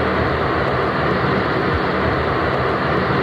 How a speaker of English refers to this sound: residents have complained about the noise from the giant fans that are used to cool the computers. I'm going to play you the sound from a news report from the TV station WATE so you can hear what it sounds like.